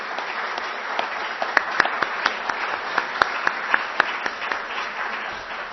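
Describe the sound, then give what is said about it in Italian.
An audience applauds steadily for several seconds, a dense wash of many hands clapping with a few sharper individual claps standing out, heard at moderate volume with no talking. “Allora, applauso.”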